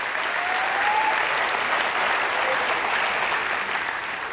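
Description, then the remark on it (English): Sustained audience applause at a church for the youth leaders present, a dense steady wash of many hands clapping at an even, loud level for several seconds, with no one speaking over it. “And so, in fact, can we just give all like the youth leaders in the house a big round of applause, please?”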